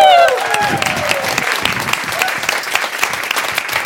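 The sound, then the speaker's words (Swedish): Sustained audience applause for Eva Ekedal, a dense crackle of many hands clapping at steady loudness, opening with a brief bright tonal flourish of music that quickly fades under the clapping. “Det ger vi en varm applåd till Eva Ekedal!”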